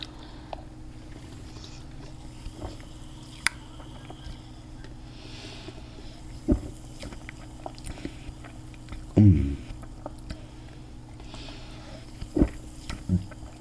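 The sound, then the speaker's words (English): A can of soda is opened and drunk from: a few sharp clicks and taps, the soda's bubbles audible, then a brief burst of gulping swallows over a steady low hum, with no talking. “So what I'm first going to do is I'm going to open this can of soda. You can hear the bubbles in the soda.”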